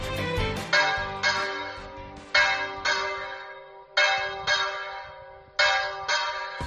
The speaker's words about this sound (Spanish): Así suenan las campanas de la parroquia de Tortuera. Al igual que las demás de la diócesis de Sigüenza-Guadalajara, tañerán en tan solo, 10 minutos, en señal de reivindicación, o mejor dicho, de respaldo a una causa,